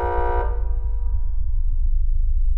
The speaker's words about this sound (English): Sound. The unpleasant blare of a door buzzer.